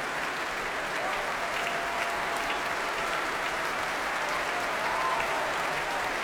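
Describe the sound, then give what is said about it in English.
Applause from the Oslo Philharmonic Orchestra under conductor Vasily Petrenko at the BBC Proms after a symphony's final bars, string players tapping their bows among the clapping: a dense, steady wash of claps that holds at an even, moderate loudness throughout, with no talking. “Applause from the orchestra, the strings tapping their bows as well.”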